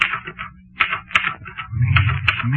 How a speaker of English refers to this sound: Me at the typewriter. Me.